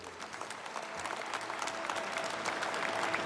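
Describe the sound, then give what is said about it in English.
Sustained applause from a large audience at the Basketball Hall of Fame induction of Dikembe Mutombo, a dense, steady patter of clapping hands with a faint undertone of crowd noise, holding at a consistent level throughout. “Applause for Dikembe Mutombo at the Basketball Hall of Fame.”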